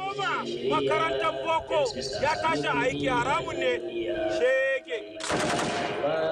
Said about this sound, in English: His speech is punctuated by gunshots.